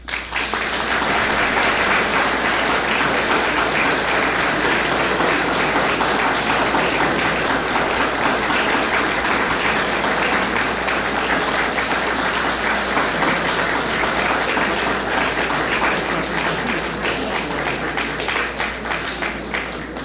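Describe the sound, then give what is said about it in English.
A large audience claps steadily and loudly for the full twenty seconds after Rabbi Lamb's account of the life of a great Jew, a dense, unbroken wash of applause with no pauses and no voices breaking through. “I can see by your applause that you were all inspired by the manner in which Rabbi Lamb told of the life of a great Jew, a great man in the history of the world, one who, with his actions, inspired everyone who came in contact with him.”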